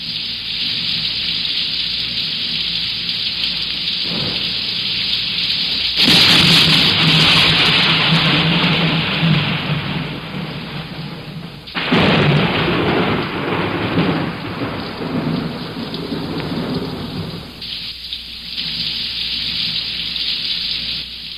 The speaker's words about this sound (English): There's rain.